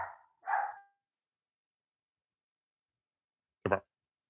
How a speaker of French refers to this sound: Ouais, excusez, il y a des chiens derrière. je pensais que c'était le soundboard. Non, c'est les chiens qui ont paniqué. Ils ont dû voir une lumière dehors qui commence à faire noir.